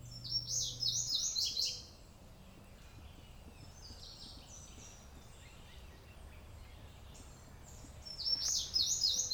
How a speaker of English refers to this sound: As far as I can judge from all the singing, the birds favor green Kessler.